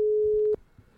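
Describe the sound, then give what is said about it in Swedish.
A telephone ringing tone sounds while placing a phone call, a single steady, clear electronic tone for about half a second, then cuts off abruptly, leaving faint background noise. “Ska jag ringa ett så kallat mål?”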